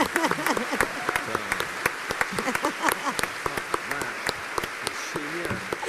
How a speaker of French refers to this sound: On a tout donné et pour ça, on peut t'applaudir